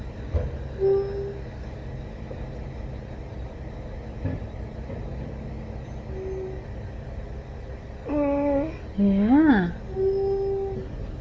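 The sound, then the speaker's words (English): A big green garbage truck idles and rumbles as workers collect the garbage, a steady low engine drone, then near the end a loud, wavering mechanical squeal rises and falls a few times. “Look at that big green truck.”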